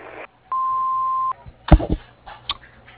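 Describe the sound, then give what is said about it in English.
A single steady answering machine beep from the business line of Tibbs Swilly, Inc., a building contractor, an even electronic tone held for under a second, followed by a few muffled clicks and rustling noises on a phone line. “Please leave your name and number at the sound of the beep, and I will get back with you as soon as possible.”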